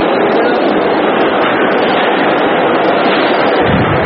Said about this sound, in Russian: Вагон метро, центр Парижа, 5 часов дня.